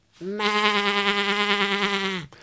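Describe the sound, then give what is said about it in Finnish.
As part of a vocal warm-up exercise, a person imitates a sheep with one long, steady bleat, a sustained nasal "baa" with a slight wavering quiver, clear, lasting about two seconds before stopping abruptly. “No, toden totta, minäkin osaan matkia eläimiä. Mää. Mää.”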